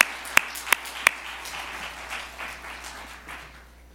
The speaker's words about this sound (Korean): 우리 하나님께 박수로 올려드리면서 교수님 환영하겠습니다.